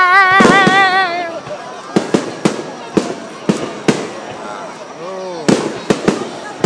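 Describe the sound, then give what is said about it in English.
Fireworks pop and crackle in a series of sharp, loud bursts spread across several seconds, with a voice singing wavering notes and people talking underneath. “Fireworks are the best.”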